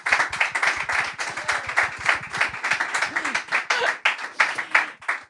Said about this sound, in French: On peut l'applaudir.